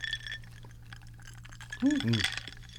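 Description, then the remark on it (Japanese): A quick clink of glasses touching in a toast, a couple of bright ringing taps near the end, with people's voices and background chatter around it. “乾杯しましょうか。 はい、 はい、乾杯。”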